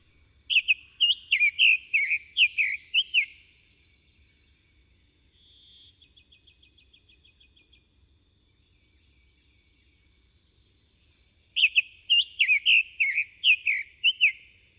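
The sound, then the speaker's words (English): A summer tanager sings two short bursts of robin-like, burry warbled phrases separated by a pause, with a faint, high insect-like trill in the quiet gap between them. “A treetop bird of the south and southwest, the rosy red summer tanager has a robin-like song, but with a rough edge to many of its notes.”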